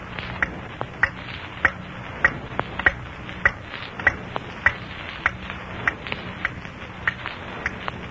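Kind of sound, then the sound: household object, clock ticking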